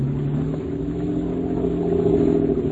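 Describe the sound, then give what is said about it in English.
A motorboat engine roars at full throttle as the boat is opened up to get away, a loud, steady droning hum that swells slightly toward the end, with no voices. “Open her up and get away, Scotty. Give her all she's got.”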